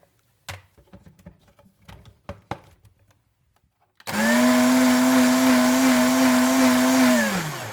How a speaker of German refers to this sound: Du nimmst einfach mal ein altes, ausgeleierte Unterhose von dir, okay, packst sie bitte in den Mixer rein. Ja, dann machst du bitte jetzt nochmal 1 Liter Wasser dazu. Ja, warte, muss ich kurz abmessen. Ja. Mhm. Okay, und jetzt mach mal den Mixer an.